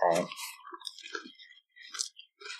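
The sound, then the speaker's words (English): Wet chewing and crunching of a hot snack put whole into the mouth, with irregular bites and mouth clicks over a couple of seconds, no talking. “I'm just going to put the whole thing in my mouth.”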